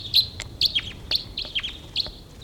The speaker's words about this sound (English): Two birds coming in here.